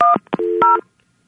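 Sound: touch-tone telephone dialing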